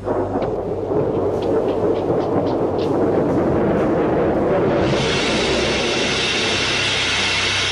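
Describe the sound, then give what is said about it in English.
A continuous deep, rumbling roar fills the scene, like thunder rolling through a storm, steady and loud with a brighter hiss joining halfway through as if heavy rain sets in. “15 minutes, the storm should be at its height.”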